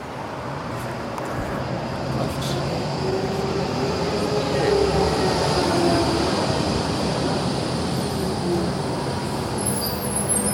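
An old tram rumbles steadily past for about ten seconds, a dense, even roar of wheels on rails with a faint, thin squeal drifting through the middle, and no voices.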